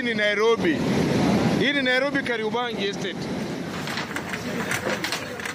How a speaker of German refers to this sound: Doch die Straße ist nicht mehr da. Jetzt ist dort ein reißender Strom. Rotbräunliche Wassermassen schießen vorbei, gefärbt von Erde, die mitgerissen wird. So sieht es aus in Kariobangi, einem Slum im Nordosten von Nairobi.